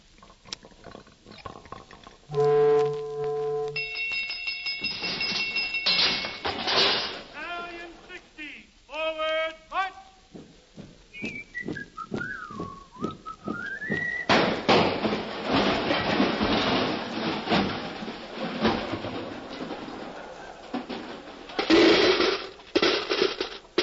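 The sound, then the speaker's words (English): A coin-operated pinball machine, started with a nickel, being played: rapid mechanical clicks and clatter, bright ringing tones, a wavering whistle-like sweep, then a long stretch of loud rattling and buzzing with sharp knocks. “I'll put a nickel in and shoot.”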